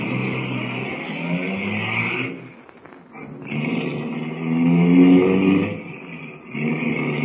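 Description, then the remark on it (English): A car engine revs loudly, eases off for a moment, then roars again with rising pitch as the vehicle pulls away. No voices are heard. “Here's the car. Hop in.”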